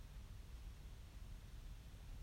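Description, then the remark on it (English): A radiator hisses softly and steadily, a faint, even rush of air with no breaks or changes. “The sound of a hissing radiator, the image of us sitting in this rectangle together.”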